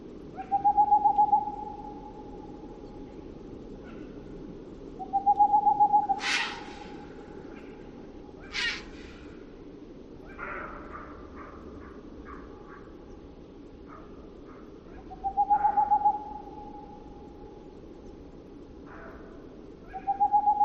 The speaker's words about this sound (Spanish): esta especie de ululato pulsante es un mochuelo boreal